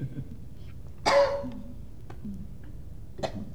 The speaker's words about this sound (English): And we'll wait while you cough and perhaps you could just say it again.